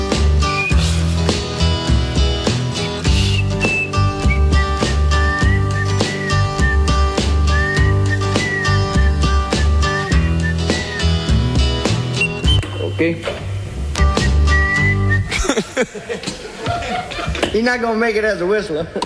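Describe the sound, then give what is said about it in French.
A man whistles a wavering melody over a soul band's steady groove in a discarded recording take where the singer got the lyrics wrong; the music then breaks off, and voices chuckle and talk briefly at the end. “Voilà une prise qu'ils n'auront pas gardée, vous l'aurez compris, il s'est trompé dans les paroles et visiblement c'était pas le roi du sifflet.”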